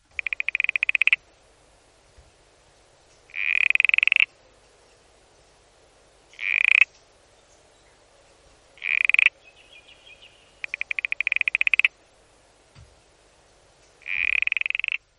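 A Tasmanian smooth frog, a plump little frog of open forests, calls in repeated rasping, pulsed trills, each burst roughly a second long, spaced a couple of seconds apart, clear with no one talking.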